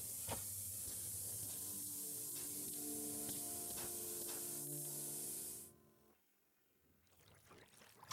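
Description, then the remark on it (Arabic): Water hisses loudly into steam on the hot engine of a Jeep as the engine is cooled with water, a steady rush with a low hum beneath, lasting several seconds before cutting off abruptly into near silence and faint rustling. “سوف يبرد المحرك بالماء.”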